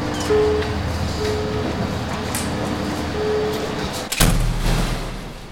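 A heavy door into a building with a 1.70-metre-thick concrete wall swings open over a steady low rumble, ending in a sharp clunk and a deeper boom as it settles, with faint mechanical hum around it.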